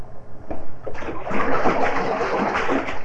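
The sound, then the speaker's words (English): Water splashes and sloshes, a few separate splashes at first, then a continuous, churning wash of splashing that keeps going loudly to the end. “Splash and splash.”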